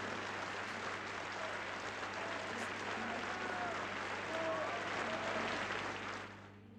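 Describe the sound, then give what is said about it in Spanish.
Sustained audience applause on a music track played on a radio programme, a dense steady wash of clapping from a crowd that holds at a constant level for several seconds before starting to fade at the end, with a low hum underneath. “Bueno, la pista tiene más de un minuto y medio de aplausos, pero creo que mejor los vamos recortando para así poder escuchar más música.”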